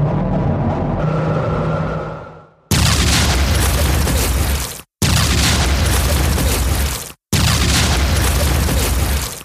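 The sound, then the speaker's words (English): A low humming drone fades out, then three loud, sustained explosions roar in close succession, each a dense rumbling blast broken by a brief moment of silence, as military choppers and spaceships launch missiles at a base. No one speaks. “Just then, there are sounds of explosions.”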